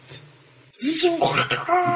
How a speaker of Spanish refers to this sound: Escuchamos un grito, suponemos que se murió ….